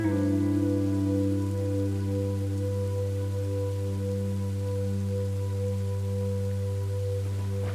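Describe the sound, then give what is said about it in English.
Steady rain patters continuously beneath a sustained, low humming drone, holding an even moderate level throughout with no voices present. “The rain cleanses you, inside and out, as you feel yourself releasing unneeded emotions and thoughts.”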